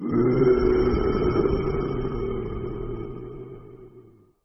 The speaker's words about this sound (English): A big tiger growls.